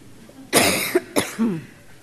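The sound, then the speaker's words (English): A fairly loud cough from a preacher about to read from Exodus chapter 34: one harsh burst followed by a shorter second hack and a brief throaty rasp as it trails off, with no talking. “Sorry, I might need to cough during this.”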